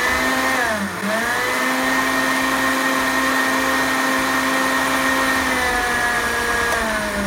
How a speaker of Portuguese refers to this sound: E eu vou usar o liquidificador, ó. Deixa eu botar um nabo aqui, cozidinho. Um tiquinho da água que estava na panela só para empurrar a batida. E vamos bater, para a gente ter um purê bem firme, ó.